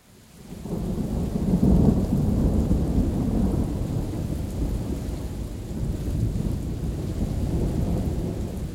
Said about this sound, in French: Le tonnerre cessa de se faire entendre. Mais la pluie continuait toujours et la campagne s'enveloppait de ténèbres impénétrables.